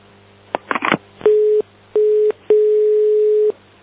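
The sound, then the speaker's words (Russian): A few handset clicks and rustles, then a telephone ringing tone from an incoming call: two short beeps and one longer steady beep, clear, with no one talking. “Ты подставь жопу этому дурню, который все звонит.”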